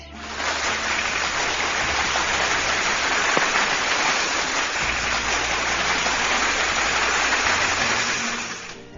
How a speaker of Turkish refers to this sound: Kocaman, kocaman bir alkış.